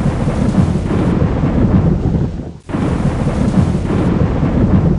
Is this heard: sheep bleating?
no